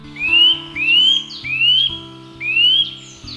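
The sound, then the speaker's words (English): A nut-caching woodland bird gives four loud, clear whistled calls, each sliding upward in pitch, repeated at a steady rhythm over a low, steady tonal background. “To eat their haul, the birds wedge nuts in tree bark, repeatedly striking them with their sharp beaks to get at the goodies inside. Listen out for their calls like this.”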